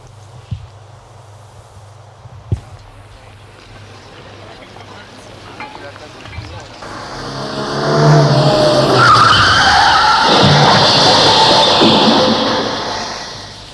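After a quiet stretch of low hum and a few soft clicks, a car's tires suddenly screech in a loud, sustained skid as the car strikes a person from the side and knocks him down, with a roaring rush of noise that lingers before fading slightly.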